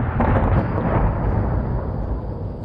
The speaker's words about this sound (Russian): В это время на другой стороне бухты послышались взрывы.